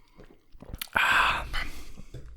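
A brief slurping sip of Ramon Bilbao Reserva red wine from a glass, a wet airy draw lasting about half a second, surrounded by faint mouth and lip noises in otherwise quiet surroundings.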